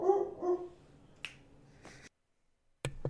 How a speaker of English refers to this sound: Was that barking on your side? Yes, it was.